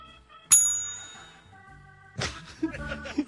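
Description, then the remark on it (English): A single bright bell ding strikes sharply and rings out with a shimmering, slowly fading tone, followed about two seconds later by muffled voices and background clatter. “The delayed bell there, man.”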